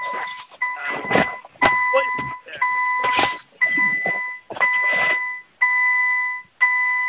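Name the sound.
car beeping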